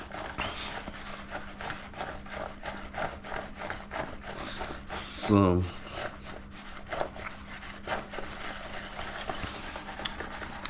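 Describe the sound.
Spices, including hot cumin from Spain, being shaken in a container make a steady, rapid rustling rattle that continues throughout, briefly interrupted midway by a short spoken word and a sharper squeaky burst.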